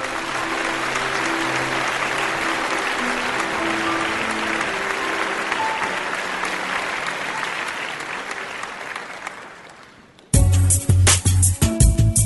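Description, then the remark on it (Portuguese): Sustained applause from a crowd, a virtual tribute to Silmar, a dense steady patter of clapping lasting about ten seconds before fading out, then giving way abruptly to loud music. “e para você, em nome de toda a equipe do Alotênica, ainda que virtuais, os nossos sinceros aplausos, meu amigo.”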